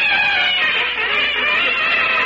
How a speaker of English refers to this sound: Have you built up that new fanfare? Have I? I'm using two trumpets.